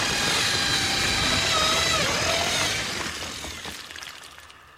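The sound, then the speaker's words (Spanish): A power drill bores a hole in a wall, grinding steadily with a high, whining hum and gritty crunching, holding loud for about three seconds before tapering off as the motor winds down. “Un hombre hace un agujero en la pared con un taladro.”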